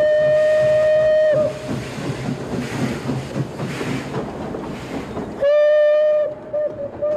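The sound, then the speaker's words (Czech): A steam train on its way to London chugs along with a steady rhythmic clatter, its loud, shrill whistle blowing at the start and again near the end, with a couple of short toots. “Teď nastoupili do vlaku už ne ti venkovští vyjevenci s udivenýma očima, jak se poprvé objevili na hřišti AC Hlubočepy.”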